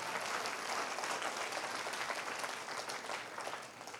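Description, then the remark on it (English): A steady wash of audience applause, many hands clapping densely and evenly for about four seconds without pause, fairly loud throughout and easing off slightly at the end. “Come on, clap your hands if you want to clap.”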